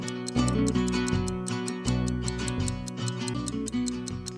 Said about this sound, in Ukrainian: Рівно на секунду я чую цокання Тесота.